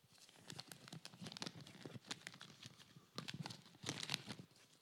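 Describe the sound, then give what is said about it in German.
Continuous crinkling and rustling of stiff old paper, an official proclamation, being opened and unfolded, with irregular sharp crackles bunching into louder bursts toward the end. No one speaks. “Ganz schön altes Papier.”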